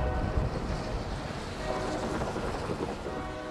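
A train rumbles past at night near the school district headquarters in SoTo, Seattle, a loud, steady roar of wheels and rail noise with a faint metallic hum running through it, no voices.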